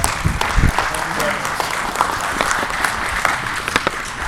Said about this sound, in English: Another round of applause for God.